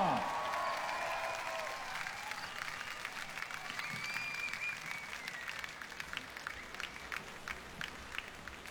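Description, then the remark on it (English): An audience bursts into sustained applause for the Shangyan Chinese Chamber Orchestra, a dense, steady patter of many hands clapping at an even loudness for several seconds, with a few faint whoops and whistles rising over it early on. “Let's hear it for Shangyan Chinese Chamber Orchestra!”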